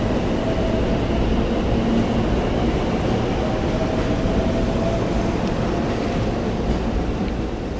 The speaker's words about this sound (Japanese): これは何系？これは313系。あ、やっぱり313なんだ。